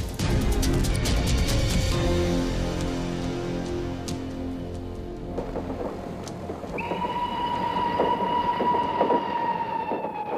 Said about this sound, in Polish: Pociąg pośpieszny Poznań-Gdańsk, Dudni głucho po szynach. Jest noc.